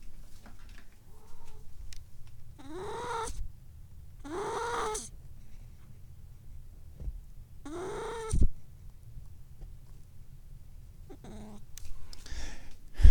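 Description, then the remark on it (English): A cat lets out a series of strained, drawn-out yowling cries while pooping, about five in all, separated by quiet pauses over a low background hum, with no one talking. “Kitty poop sounds.”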